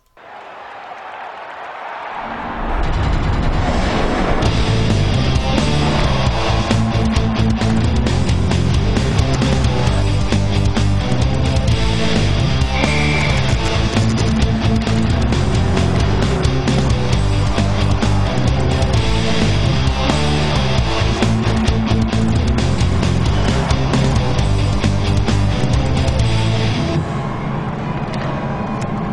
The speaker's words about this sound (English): So they sampled the Excite Truck soundtrack and put it in the background.